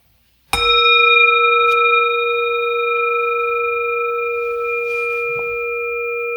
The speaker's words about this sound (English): All right, so I'll ding this bell to start, and then I'll ding the little bell to end it.